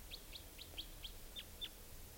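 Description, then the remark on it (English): A type 2 wild bird calling late in the evening, about 8 o'clock: a quick run of about seven short, high, downslurred chip notes at a steady rhythm, fairly faint over a low rumbling background, with no talking. “Trying to find, okay, here's the type 2 wild bird.”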